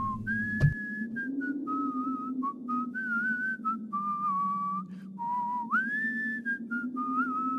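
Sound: human whistling a tune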